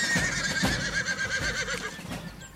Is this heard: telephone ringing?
no